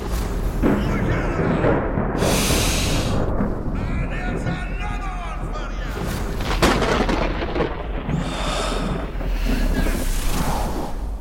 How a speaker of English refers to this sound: There's a thunderstorm broken out in the suites downstairs. Rain, lightning, wind, all that stuff.